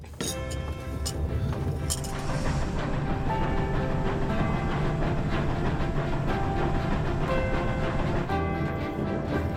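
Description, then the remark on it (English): A luxury passenger train in Russia rolls steadily along the rails, its loud, continuous rumble with faint rhythmic clacking and occasional glassy clinks over the top. “Roskiala Express isn't just a train ride.”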